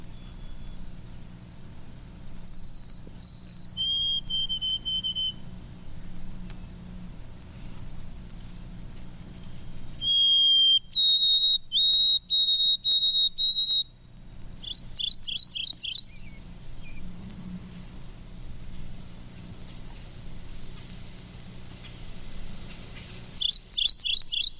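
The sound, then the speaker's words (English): Clear, high whistled notes of two white-throated sparrows calling territorially in the woods, in sustained stepped phrases answering back and forth, with brief buzzy chirps from another bird over a low outdoor hum. “White-throated sparrow, two of them, warning each other of the territorial boundaries they've staked out.”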